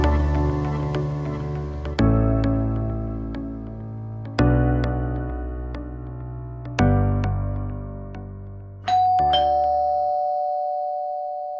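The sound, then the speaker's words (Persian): An electronic intercom doorbell chimes in a repeating tonal melody, four or five clear ringing notes each decaying slowly, ending on a sustained electronic buzz as the home's door is opened with the intercom. No voices are present. “به محض اینکه مامان با آیفون در رو باز کرد”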